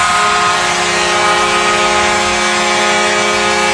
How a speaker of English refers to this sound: All right, get ready. We're going to hear that foghorn again.